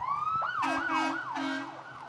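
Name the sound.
emergency vehicle sirens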